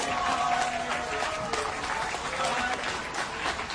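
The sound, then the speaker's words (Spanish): At a Munich train station, a crowd of local people claps steadily in a dense, continuous patter to welcome arriving Syrian refugees, with scattered voices and cheers mixed into the applause throughout. “Los muniqueses que se habían congregado en la estación de tren recibieron a los refugiados sirios con aplausos.”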